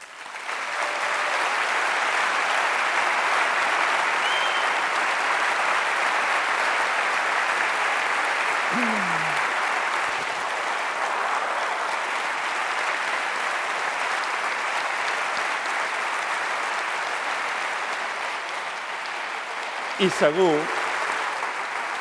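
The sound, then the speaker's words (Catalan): Sustained applause from a large audience, a dense steady wash of clapping that carries on for over twenty seconds at an even level, with a brief louder flourish near the end. “I segur, i ho dedueixo dels aplaudiments i també d'altres coses, segur que hi ha molta gent en aquest país que aquesta traïció no la vol cometre de cap manera.”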